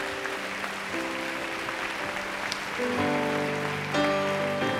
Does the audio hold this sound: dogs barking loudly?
no